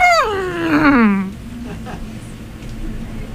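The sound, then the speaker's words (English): A person imitates an elephant's trumpeting call, a single loud, harmonic wail sliding downward in pitch for about a second, then trailing off into a quiet low hum. “I gotta go with elephant.”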